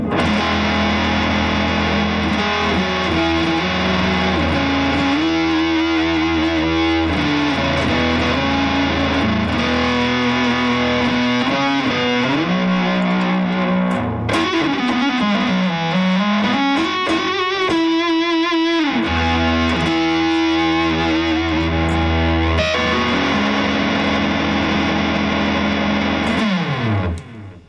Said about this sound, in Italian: Il suono poi bello caldo, questa distorsione bella calda.